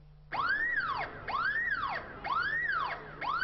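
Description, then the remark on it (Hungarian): A loud electronic alarm at a bank branch during an armed hostage robbery wails continuously, its pitch sweeping up and down in repeating cycles about once per second, with no voices present. “Hiába szólt a riasztó, a rendőrség is tehetetlen volt több órán keresztül.”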